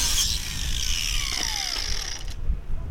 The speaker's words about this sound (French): Et dans le port, un homme ponce une planche pour son bateau.